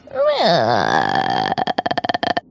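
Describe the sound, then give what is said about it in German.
A voice imitates the creaking door of a castle cellar opening during a spoken adventure story: a long, wavering groan that bends in pitch, then breaks into a rapid series of rough, clicking creaks before stopping. “Also, die Tür öffnet sich knarrzend.”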